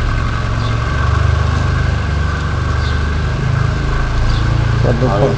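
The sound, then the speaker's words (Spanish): A car engine idles in a steady, low rumbling drone that holds fairly loud throughout as the car is being parked, with a brief murmur of voices near the end. “Lo aparca. Sí. Ahí. Bueno, ya está aparcado el coche.”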